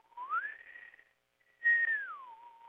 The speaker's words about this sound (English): and everybody was standing in the room, and when that thing started, I started whistling.